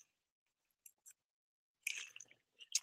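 A couple of faint clicks, then a short burst of wet slurping and swallowing as someone sips water, ending with a few soft mouth sounds.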